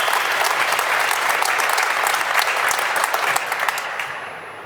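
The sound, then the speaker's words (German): A crowd of football fans cheers and claps in a dense, steady roar of applause, with sharp individual claps scattered throughout, fading slightly toward the end. “Die Klopfer-Fans freuen sich zurecht.”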